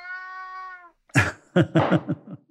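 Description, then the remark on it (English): A cat named Wilbur meows into the microphone during an interview: first a steady, drawn-out tonal meow, then a short pause and a burst of several louder, rougher yowls in quick succession. “I have a cat who appears at every interview I do. His name is Wilbur, and he loves the mic.”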